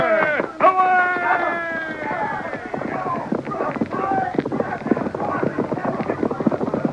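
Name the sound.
horses galloping away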